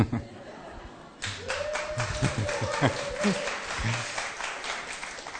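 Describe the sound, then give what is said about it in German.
Applause at a Christian worship gathering, answering the question whether they feel comfortable there, bursts in after a quiet second, a dense patter of many hands clapping steadily at moderate loudness, with a few voices and murmurs mixed in beneath it. “Okay, danke, das war der Applaus für ein bisschen.”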